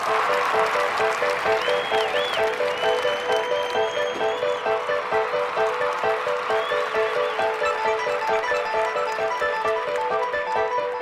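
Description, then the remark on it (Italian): Steady, dense general applause from a large crowd as Baron Lamberto enters, clapping continuously for about eleven seconds, with a faint tonal hum and a few whistle-like sounds woven underneath. “Il barone Lamberto sta entrando fra gli applausi generali, sorride fresco come un mattino di primavera.”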